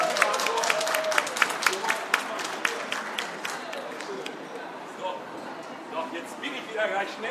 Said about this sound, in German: Ein Applaus.